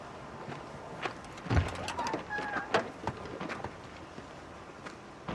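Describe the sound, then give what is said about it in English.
Clunks and knocks as two jugs of Mackenzie's cider are set down in the back of a truck, a brief squeak, then a solid thud of the truck door shutting, with a few lighter clicks afterward. “Franklin opens the back door of the truck and puts two jugs inside.”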